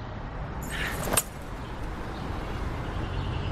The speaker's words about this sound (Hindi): बस एक मिनट, चाबी दे रहा हूँ। ये ले।